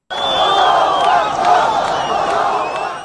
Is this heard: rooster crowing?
no